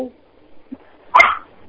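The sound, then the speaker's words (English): A caller's dog gives one sharp, loud bark in the background of a phone call over a quiet line, preceded by faint, muffled background sounds. “I hear the dog in the back.”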